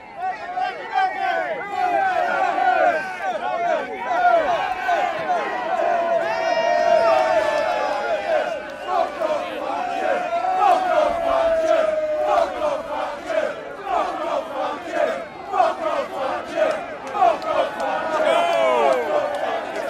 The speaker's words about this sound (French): La fumée monte. On jette des pierres sur le feu. On jette des objets. On lève le poing, on crie.